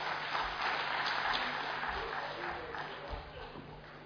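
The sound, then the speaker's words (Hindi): An audience applauds Dr. Suresh Chandra Paidhi after his guidance on financial habits, in a dense, steady wash of many hands clapping that lasts about four seconds and eases off slightly toward the end, with a faint murmur of voices underneath. “जोरदार तालियां डॉक्टर सुरेश चंद्र पैधी जी के लिए जिन्होंने हमें फाइनेंशियल हैबिट्स के बारे में बहुत अच्छी तरह से गाइडेंस दिया।”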